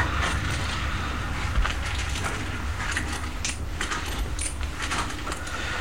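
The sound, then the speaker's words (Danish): Coins totalling 4 Danish kroner clink and rattle into a glass jam jar, a series of bright metallic taps spread over a few seconds against a steady low background hum. “Og lægger 4 kroner i cykeltøjsglasset.”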